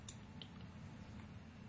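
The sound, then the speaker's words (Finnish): Two quick, quiet, soft mouse clicks a fraction of a second apart, clicking an exe file to start a program, over a low steady hum with no voices. “Tuolta sitä exeä klikkaamalla”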